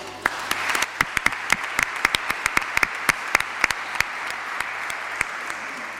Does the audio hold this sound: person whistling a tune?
no